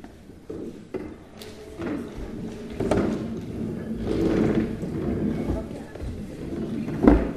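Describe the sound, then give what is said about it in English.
A chair is turned around, with scraping, creaking movement and a few soft knocks and thuds spread over several seconds, while voices murmur faintly. “Turn my chair around.”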